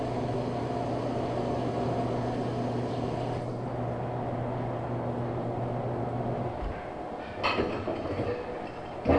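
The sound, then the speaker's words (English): A garage door rumbles open as a mother comes home in the car, with a steady mechanical motor drone and grinding hum for several seconds, then the motor cuts off and a few clunks and rattles follow as it stops. “You could hear the garage door sound”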